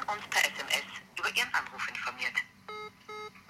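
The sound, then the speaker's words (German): Voices talk for a couple of seconds, then a phone call's ringing tone plays over speakerphone, repeating in short, evenly spaced electronic pulses. “Ich mache da jetzt auf Lautsprecher.”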